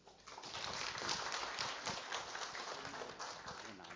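An audience in Melbourne claps to welcome a visiting preacher, steadily for about four seconds, a dense wash of overlapping handclaps at an even, fairly loud level with no voices over it.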